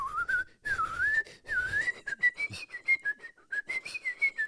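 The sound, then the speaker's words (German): A person whistles a melodic tune, half to the side to avoid blowing into the microphone, a clear pitched line rising and falling through a series of phrases, smooth at first and then broken into short, rhythmic notes. No talking. “Ey, ich hatte gar nicht so auf dem Schirm, dass du sogar pfeifen kannst”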